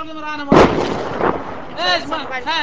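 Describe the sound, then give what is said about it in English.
Two booming blasts of automatic rifle and mortar fire, the first loud, the second softer, with high wavering tones before and after the bursts; Taliban fighters firing at Alliance troops from isolated corners of the Kalyangi fortress at dawn. “They fired automatic rifles and desperately shot mortar rounds at Alliance troops from isolated corners of the fortress.”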